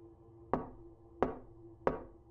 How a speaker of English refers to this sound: One day, I was in my office writing, and I hear a knock at the door.